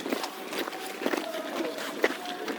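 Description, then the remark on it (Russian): Many soldiers' feet tramp in a steady, regular rhythm, marching in step in formation on a hard surface, with a faint background murmur and a brief tonal whistle-like hum. “Левое плечо вперед шагом. Марш!”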